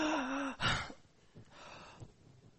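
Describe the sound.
A loud, exaggerated gasp for air, a sharp wheezy inhale with a whistling rise, followed by a burst of breath and a couple of quieter, ragged breaths, acted out by a person.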